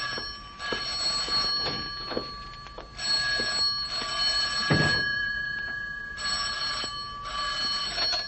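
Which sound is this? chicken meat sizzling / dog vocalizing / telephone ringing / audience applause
telephone ringing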